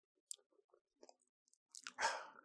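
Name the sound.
sipping coffee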